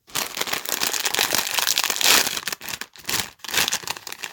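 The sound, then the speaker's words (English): A packet of pickled onion Monster Munch crisps is torn open and crinkled, a dense, continuous crackling rustle with a couple of brief pauses before the crinkling resumes. No one speaks. “Conveniently, I have a cupboard in my kitchen containing approximately 1 billion packets of pickled onion monster munch, so let's try it out.”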